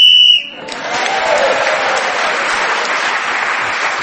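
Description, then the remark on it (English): A single short, shrill game whistle blast sounds at the start, blown as Clement Freud was speaking, which gained him an extra point. It then gives way to steady, sustained applause from an audience that continues to the end. “So, Clement Freud, speaking as the whistle went, gained the extra point”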